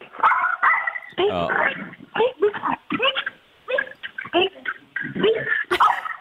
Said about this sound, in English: can you make Calamity bark? Okay, ready?